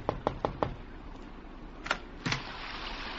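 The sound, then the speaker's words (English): Four quick, evenly spaced knocks on a door late at night in London, followed after a pause by two heavier, more spread-out thuds; no voices, just faint room noise between. “I thought it was his knock that I heard on my door.”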